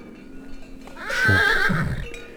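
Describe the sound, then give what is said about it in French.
A Mérens horse from a small herd gives one loud, drawn-out whinny lasting about a second, rising and then falling in pitch, against a low steady outdoor background in bright sunshine with no voices. “Chevaux de Mérens.”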